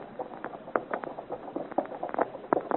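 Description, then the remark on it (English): Hooves of travelling horses clip-clop in a steady, uneven patter of sharp knocks, several hits each second, with a faint hiss beneath and no voices. “We are traveling well, Guillaurier. We have made good speed. We have fine horses, Chevalier.”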